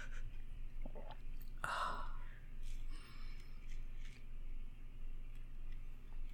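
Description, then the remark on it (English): A quiet sip of whiskey: one short, wet slurp early on, followed by faint mouth sounds over a low, steady hum, with no talking. “Well, let me take another sip.”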